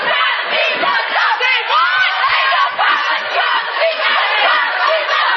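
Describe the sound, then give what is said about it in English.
A young crowd of protesters, mostly students, marches along an avenue with signs about education funding, chanting and cheering continuously, many voices blending into a loud, dense roar with rising shouts and whoops throughout. “We have a young crowd here.”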